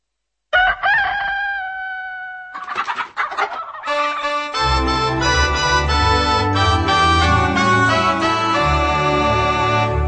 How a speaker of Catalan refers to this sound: Cada dia de matí canta el gall quiquiriquí i la gent mitja adormida es desperta de seguida.